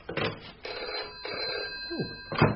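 telephone ringing

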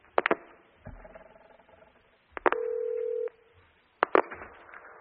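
telephone number being dialed

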